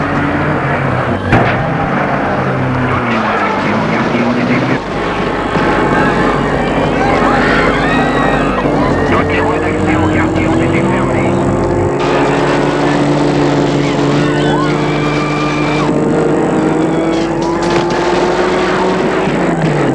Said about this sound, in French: La voiture s'éloigne des émeutiers, on les entend de moins en moins.